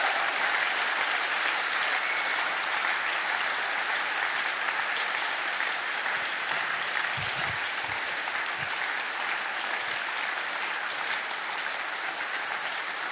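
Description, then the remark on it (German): Sustained applause from a large crowd fills the space, a steady, dense wash of clapping lasting over ten seconds with no talking over it. “Gebt ihnen noch mal einen herzlichen Applaus.”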